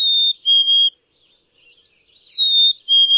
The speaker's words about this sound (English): But in some places, they overlap, and while the two look nearly identical, their voices give them away. Black-capped chickadees sing a sweet, whistled 2 to 3 notes, the first a bit higher.